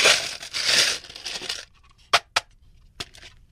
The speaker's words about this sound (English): Again, I'm going to strain it into a rocks glass. And I'm going to come back with that drink. And I'm going to pack your glass full of this crushed ice.